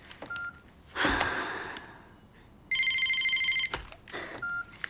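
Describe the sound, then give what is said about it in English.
A telephone rings once in a loud, trilling electronic burst, preceded and followed by short beeps and brief bursts of rustling noise; no one speaks. “Have you been on the phone? I've been trying to get through for an hour.”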